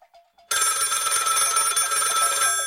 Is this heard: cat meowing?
no